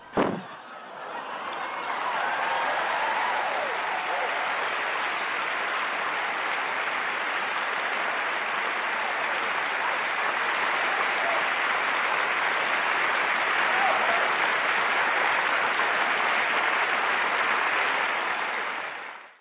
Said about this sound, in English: All right. Well, let's clap it up for you.